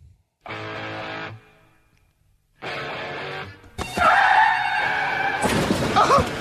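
A car wreck: two harsh tire skids, each about a second long, then a loud, sustained burst of crashing, scraping and shattering noise that rings on until the end.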